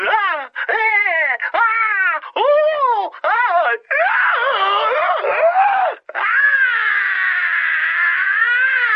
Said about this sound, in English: Then I will have to settle for your screams.